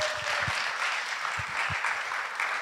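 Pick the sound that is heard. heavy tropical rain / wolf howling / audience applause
audience applause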